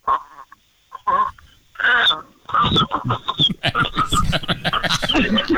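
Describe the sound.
Voices mimic a little chick's cheeping and a little frog's croaking in quick, squeaky bursts traded back and forth, fairly loud, growing busier and more overlapping toward the end.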